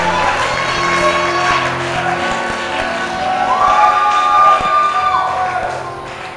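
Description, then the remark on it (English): An audience shouts amen together in a loud, sustained roar of many voices, swelling slightly in the second half as one held tone rises above the crowd. “Oh, your amen was not like I shouted. Your amen.”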